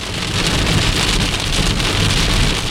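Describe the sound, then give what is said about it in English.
Heavy rain pours down while driving slowly, a loud, dense and steady hiss with a constant patter of drops and a low rumble underneath. No one speaks. “This is insane, this weather. I feel like I'm shouting now because it's loud in my ears, but I don't know if it's loud for you guys.”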